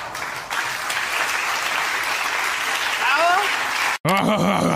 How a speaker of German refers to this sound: Applaus, Applaus!